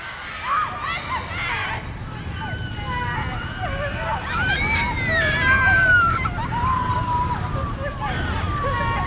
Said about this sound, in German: Da hörte ich auf einmal lautes Geschrei.